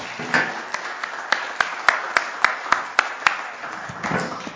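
A brief round of applause: about a dozen sharp, crisp claps in a fairly steady rhythm, sounding thin, as if only a few hands are clapping, before fading out. No one speaks.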